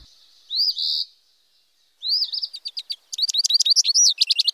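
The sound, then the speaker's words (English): An eastern phoebe, a small insectivorous songbird, gives its namesake call, a buzzy two-part phrase, then breaks into a quick run of sharp, high chirps and trills, clear against a silent background. “These tough insectivores with the eponymous call somehow survive the winter on occasion, and at minimum are willing to put up with our often wintry March and April weather to get a leg up on the competition for territories.”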